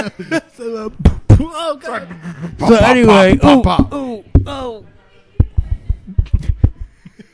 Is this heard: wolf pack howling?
no